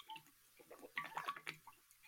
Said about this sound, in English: Sorry. Oh, what was that? That was a big swig of water. Big.